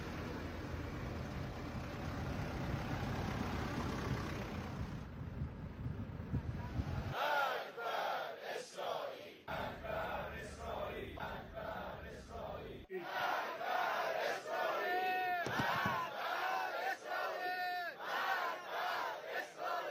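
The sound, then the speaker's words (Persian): A large outdoor crowd at a rally in Urmia and Birjand, held in solidarity with the people of Gaza, chants slogans in loud, rhythmic bursts of many voices shouting together. A rush of wind-like noise comes first, before the chanting begins and repeats steadily. “گروه های مردمی در ارومیه و بیرجند در تجمعی بر همبستگی با مردم غزه تاکید کردند.”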